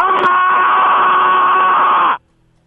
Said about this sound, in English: What do you have? Let's hear your scream.